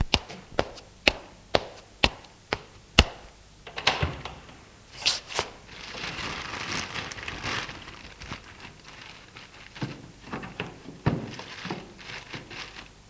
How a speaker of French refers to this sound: Ouvert la porte de l'armoire et fouillé à l'intérieur de l'armoire.